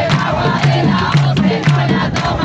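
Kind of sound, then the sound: crowd, crowd of protesters chanting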